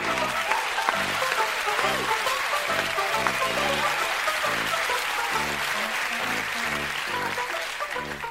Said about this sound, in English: I'd like to introduce the next act. Let's have a big round of applause for Biff, the dancing dog.